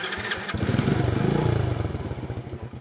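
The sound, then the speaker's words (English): A Chinese motorcycle engine sputters to life after a brief burst of noise, then settles into a loud, steadily pulsing idle with a rough, throbbing rhythm. “The biggest change, Chinese motorcycles like this one, that can be had for $500”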